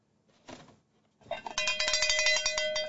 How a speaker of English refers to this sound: That's an official pit mistress cowbell.